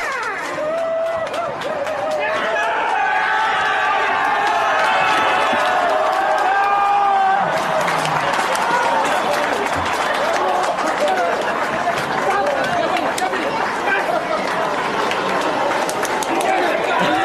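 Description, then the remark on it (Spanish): A small group cheers and whoops loudly while rapid, scattered clapping runs throughout, excited shouting voices rising and overlapping in a sustained burst of celebration in the Haas Formula 1 team garage as Kevin Magnussen takes his first Formula 1 pole position. “Tras el baño de aplausos y felicitaciones, el piloto danés se mostraba emocionado y reconocía que le parecía increíble lo que había conseguido.”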